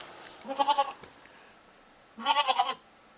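A goat bleats twice, each call a wavering, quavering cry lasting about a third of a second, separated by a short pause. The calls are fairly clear, with no talking.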